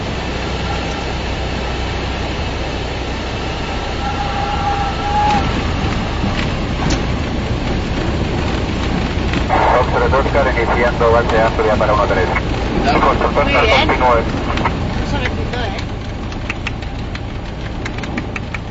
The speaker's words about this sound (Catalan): Doncs això, per finalitzar, escoltarem el moment més crític, que és el moment que l'avioneta aterra i que hi ha un moment que tot trontolla. És espectacular.